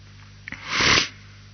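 A single sneeze from a man: a short sharp intake followed by a loud, breathy burst lasting about half a second, with no talking around it.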